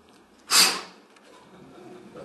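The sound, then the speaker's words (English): A single forceful, breathy blowing exhale, a voice imitating a preacher at his pulpit blowing air out hard at COVID, bursting loudly for about half a second before fading into quiet background noise. “I think it was from the breathing back that he got the COVID.”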